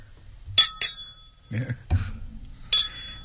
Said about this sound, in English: Okay. Well, here, that deserves a clink of glass.